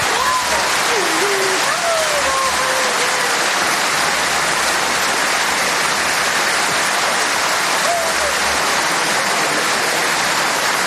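Loud, sustained applause and thunderous ovation from a large crowd in an arena roars steadily for the whole clip, a dense wash of clapping with a few higher voices and cries rising briefly above it, mixed with Carolina Marín's sobbing.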